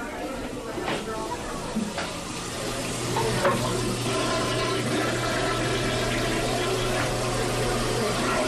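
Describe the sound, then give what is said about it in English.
Water runs from a faucet and a toilet is flushed in a steady, continuous rush from start to finish, growing a little fuller partway through, with a low hum underneath and a few brief clinks, as the Logan PSD water system is flushed to reach potable water. “So for now, each faucet is running, and toilets are flushed often in an effort to reach potable water.”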